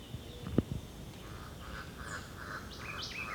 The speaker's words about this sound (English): Now about 30 meters away in dense vegetation along the ridgetop. It's the white eye again.